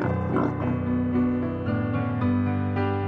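Instrumental music plays steadily with sustained tones and a rich harmonic texture, notes shifting every half second or so, with no voices heard.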